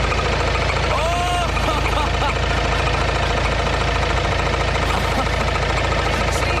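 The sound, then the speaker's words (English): A car engine knocks loudly and steadily, a rough, clattering rumble like a tractor running for several seconds, with a brief voice near the start. “This is the sound. Tractor.”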